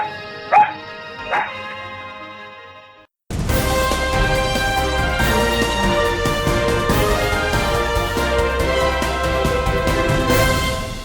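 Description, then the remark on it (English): A female dog, Crappy, barks twice, two short, sharp barks about a second apart over a quiet background, then after a brief silence loud music begins and continues. “You my dog now. This is gonna be your best Christmas ever, girl.”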